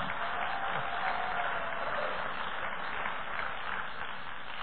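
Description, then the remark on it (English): An audience applauds after a preacher says he will close his sermon, a dense, even wash of clapping that holds at a constant level for several seconds with no voices standing out. “So everybody who's not paying a babysitter just applauded.”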